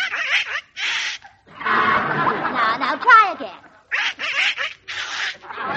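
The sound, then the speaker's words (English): A little duck named Herman makes raspy, squawking attempts at a rooster crow for Mama. The crows come in several strained, wavering bursts, broken by short pauses, with a brief spoken line between tries. The crowing sounds like a performer's voice. “But, Herman, the most important thing a rooster does is crow. Now, let Mama hear you crow, darling.”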